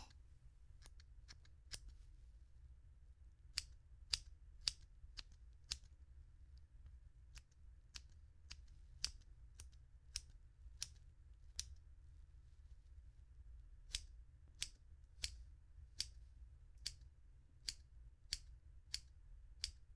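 Crisp scissor snips trimming the stray hairs of someone's eyebrows, in irregular bursts of sharp little cuts with short pauses between clusters, over a quiet low background hum and no talking.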